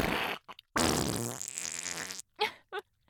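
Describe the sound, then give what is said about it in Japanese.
A long, loud, buzzing fart of about one and a half seconds, preceded by a shorter burst and small pops and followed by a few brief sputtering puffs, let out after being held in, following a meal of grilled meat and roasted garlic. No one speaks. “出た出た、やっぱり我慢した後のおなら最高ね。”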